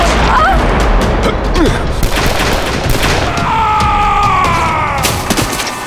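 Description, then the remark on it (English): A loud volley of gunshots, several sharp cracks overlapping in a dense, rumbling din, with a high whining tone rising through the second half before a final burst of shots. “I've never shot a man before.”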